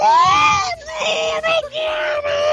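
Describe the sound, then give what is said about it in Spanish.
A voice imitates anguished screaming, a loud sustained wail broken into three long strained cries with brief gaps, raw, no other sounds around it. “Y mientras sonaba, te juro que eran gritos, pero como así como...”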